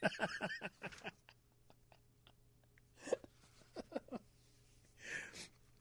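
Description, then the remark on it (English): A sudden, sharp sneeze bursts out near the end, following a few brief clipped vocal noises and quiet pauses, fairly loud. “Oh, God bless you.”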